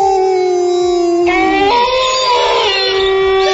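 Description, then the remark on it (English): Loud, sustained wolf-like howls, likely people imitating the sound, with a steady note that bends upward as more voices join in, layering into a wavering chorus of howls. “Yeah, that's why we'd never fit in on this show, because we're the Wolf Pack.”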